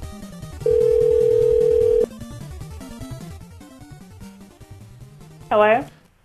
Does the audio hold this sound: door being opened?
no